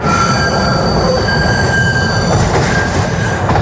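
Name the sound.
train passing on rails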